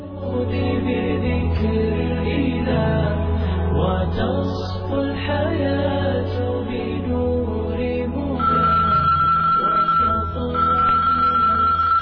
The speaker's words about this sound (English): Before Layla's thoughts can run away with her, the phone rings again.